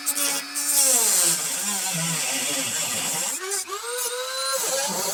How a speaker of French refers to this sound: Ça me semble être des rivets. Donc... je vais les faire sauter. Hein. D'abord, je vais mettre un coup de Dremel au bout de la tige.